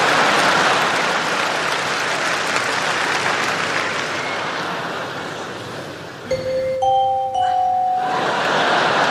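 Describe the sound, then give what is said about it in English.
A crowd's applause-like roar fills the first six seconds, then drops away as a doorbell sounds two overlapping chime notes a tritone apart (the augmented fourth or diminished fifth, called the devil's interval), clear, before the crowd noise swells back. “And that is highly effective as a doorbell, see?”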